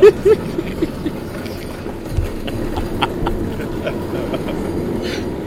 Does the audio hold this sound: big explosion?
no